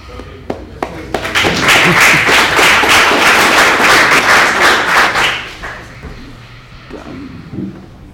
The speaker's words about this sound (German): Wie fandet ihr das? Applaus, bitte.